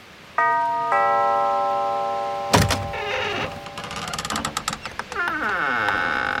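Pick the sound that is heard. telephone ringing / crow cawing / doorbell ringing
doorbell ringing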